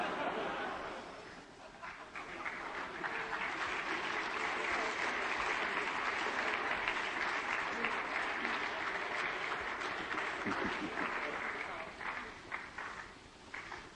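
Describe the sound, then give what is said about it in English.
A crowd at a wedding ceremony applauds steadily and densely while waiting two minutes for midnight on April 1st, a sustained wash of many hands clapping that swells slightly in the middle and thins a little near the end. “Just keep clapping until midnight.”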